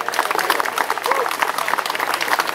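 A crowd in London, UK, applauds steadily to welcome a guest from the Canada Boat to Gaza, many hands clapping in a dense, continuous patter at a fairly loud level for a few seconds.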